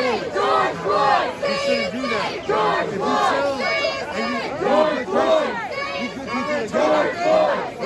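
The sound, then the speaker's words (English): A large crowd of protesters marching past the White House in Washington, D.C. chants and shouts in unison, many voices rising and falling in a steady, rhythmic protest cadence that stays loud and dense throughout. “Here in Washington, D.C., protesters marched past the White House yesterday.”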